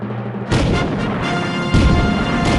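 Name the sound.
cannon firing boom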